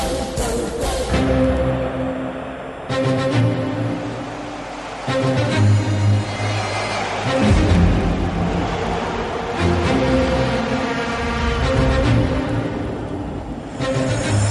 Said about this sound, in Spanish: Grimantina, la silbatina del público, escuche. Público croata con silbatina.